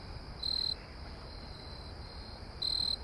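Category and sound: insect, cricket chirping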